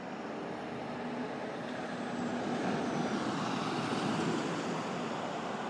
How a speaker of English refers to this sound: So I'm now standing outside McDonald's. There's a bit of traffic going by. Not terribly noisy.